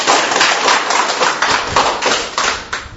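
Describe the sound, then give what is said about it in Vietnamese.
A crowd applauds loudly and continuously to celebrate the 25 August feast of two saints, King Louis IX of France and Joseph Calasanz. A dense wash of overlapping handclaps lasts several seconds with no voices standing out. “Một tràng pháo tay thật lớn để chúc mừng.”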